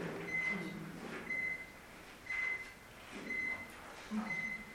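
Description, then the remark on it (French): A carbon monoxide detector, installed under Covid measures, sounds its alarm: a steady series of five short, high-pitched beeps, evenly spaced about a second apart, fairly faint over a low background hum. “va peut-être couper la sonnerie, il y a une option sur le truc”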